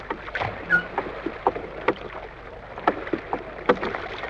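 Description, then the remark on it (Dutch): Oars dip and pull through water in a steady rowing rhythm as a boat is rowed straight ahead, each stroke giving a brief splash and creak, with a soft wash of water between strokes. “Rechtdoor, roei je maar.”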